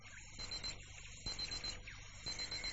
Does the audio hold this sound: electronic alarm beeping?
yes